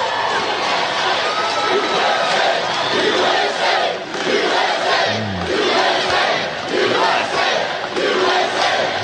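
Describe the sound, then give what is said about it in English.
A large crowd roars continuously with cheering and shouting, loud and dense throughout, with scattered voices yelling above the wash of noise. “Wow, what a crowd.”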